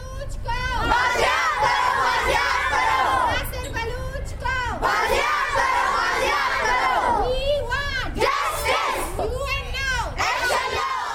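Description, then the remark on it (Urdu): A crowd of protesters, including women and children, outside the Quetta Press Club in Quetta, Pakistan, chants slogans loudly in unison demanding the recovery of a missing student, with repeated shouted phrases rising and falling in rhythmic bursts and brief pauses between rounds. “انہوں نے طالب علم کی بازیابی کے لیے نعرے بازی کی.”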